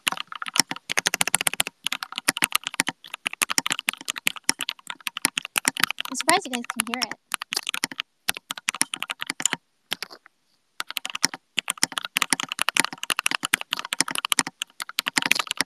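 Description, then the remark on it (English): Fast, steady clatter of typing at about 90 words per minute on a new computer keyboard that arrived the day before, dense keystrokes with a couple of short pauses, while a person speaks briefly partway through. “キーボードの音です。新しくね、昨日届いたキーボードです。”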